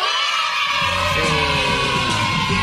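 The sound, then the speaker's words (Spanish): A loud, sustained yell fills the whole moment, a voice shouting with rising and falling pitch as if mimicking a rowdy TV opening, with a busy crowd-like roar around it. “El grito, el grito, el grito.”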